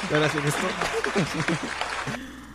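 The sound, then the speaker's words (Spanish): Brief clapping runs beneath several voices talking and cheering, a steady patter of hand claps for about two seconds before it thins out and one voice carries on. “Aplausos porque salió.”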